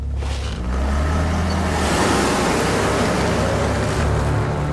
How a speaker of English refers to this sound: As the car speeds into the night, darkness falls once more.